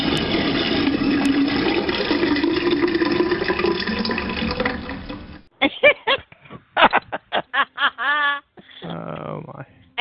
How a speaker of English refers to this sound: You have a toilet flushing? Oh, you're really, come on.